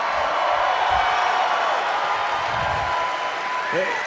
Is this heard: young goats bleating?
no